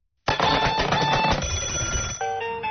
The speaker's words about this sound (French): Et oui, toutes ces sonneries